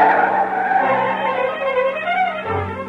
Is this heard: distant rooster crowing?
no